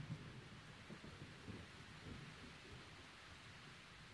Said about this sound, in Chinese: 你听，外面还在打雷，我一个人睡会害怕的。